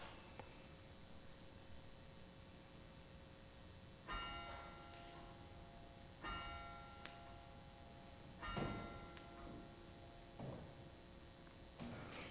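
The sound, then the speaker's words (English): A church bell that calls people to prayer tolls slowly, about four strikes spaced roughly two seconds apart, each ringing out with a long humming decay over a steady background hiss; no one speaks. “Or the ancient gong of the bell that calls people to prayer even today.”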